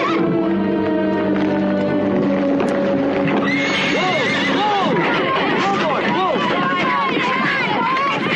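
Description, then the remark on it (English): A horse whinnies loudly and repeatedly, its shrill rising-and-falling neighs sounding while hooves clop steadily on the ground beneath the calls. “A horse is easier to tame in the water.”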